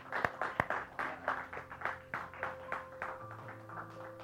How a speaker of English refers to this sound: Give the Lord some praise this morning. A little hand clap.